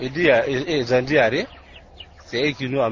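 A crowd of about 100 chickens clucks and squawks in a small coop on a street corner in Abidjan, Côte d'Ivoire, loud overlapping calls that pause briefly amid background noise before starting up again.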